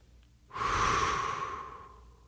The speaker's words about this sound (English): Take another long, slow, complete breath. Breathe in through your nose. Push up your abdomen. And let the air escape through your lips. Let it sound like the wind as it escapes.